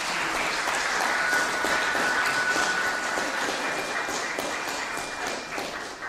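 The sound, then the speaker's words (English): Sustained audience applause for a family standing in the audience, a dense, steady wash of many hands clapping at an even loudness for about six seconds, with no voices standing out above it. “And could we have a round of applause for our lovely family?”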